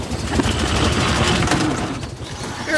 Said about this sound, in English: The old man backs a beat-up old car off the front lawn.